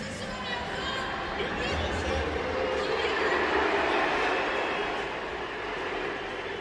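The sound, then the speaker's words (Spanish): A large stadium crowd roars steadily at a French league match against Toulouse as Mbappé's name is announced over the loudspeaker with the team lineup. Sharp whistles pierce the din early on, and a dense wash of applause and crowd noise holds loud and continuous throughout. “Pitos y aplausos para el jugador francés, división de opiniones”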